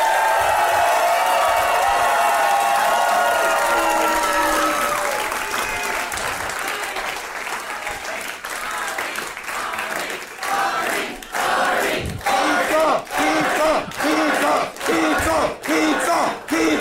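A crowd bursts into loud, sustained applause for Arnie Niekamp, mixed with cheering and whoops, which settle into a steadier wash of clapping with sharp individual claps standing out toward the end.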